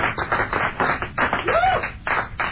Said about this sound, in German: Wir sagen vielen Dank fürs Zuhören und ich bitte um den Applaus für den besten Sender der Welt.